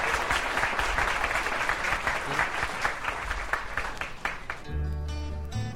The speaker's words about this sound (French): Ça applaudit.